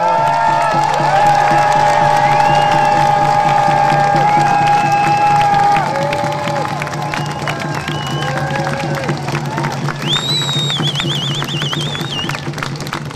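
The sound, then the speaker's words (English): A crowd applauds and cheers steadily for several seconds, giving a big hand to a woman just introduced, dense clapping mixed with whoops and shouts, holding loud before easing slightly, with a few high whistles near the end. “I would like you all to give a big hand”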